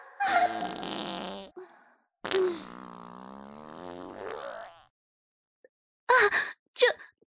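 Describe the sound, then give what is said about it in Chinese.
Two loud, drawn-out farts from a person in a wedding dress with a churning, painful stomach, the second a long wavering blast lasting a couple of seconds, followed by a brief pause and two short sharp bursts close together. “放屁的声音居然那么大，被别人听到了，太丢人了。”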